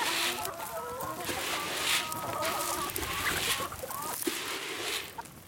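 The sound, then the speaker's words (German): A flock of chickens on an organic farm in Tägerwilen, canton Thurgau, Switzerland, clucks and murmurs continuously, with overlapping calls and occasional sharper squawks rising over a steady background bustle. “Ich habe immer fast ein bisschen Angst, dass Kunden, die zu uns kommen und die Hühner hier sehen, das Gefühl haben, alle Eier werden so produziert.”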